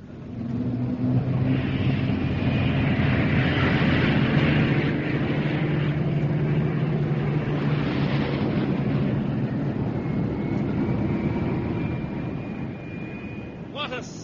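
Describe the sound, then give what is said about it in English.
Aircraft engines roar loudly and steadily as a plane takes off towards Blackpool, a rising high whine riding over the deep rumble for about fourteen seconds before easing slightly at the end. “A thousand trains taking off towards Blackpool.”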